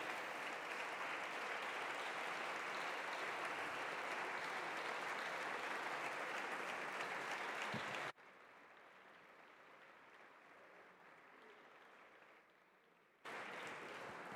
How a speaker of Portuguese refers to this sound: Peço o aplauso da Câmara.